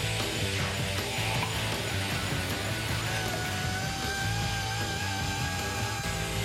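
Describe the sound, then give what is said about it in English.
The ratcheting mechanism of a 1953 table hockey game under restoration clicks rapidly and steadily, a dense stream of mechanical clatter with metallic whining tones layered over it throughout, with no talking. “The mech isn't working like it's supposed to.”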